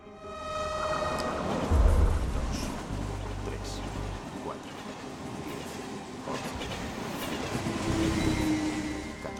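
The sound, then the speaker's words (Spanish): A West Berlin train rolls through a closed ghost station without stopping, a loud, steady rumble of wheels on track with faint metallic whines and clatter, sustained for the whole stretch. “Los trenes de Berlín Occidental pasan por esta vía. Pero no paran.”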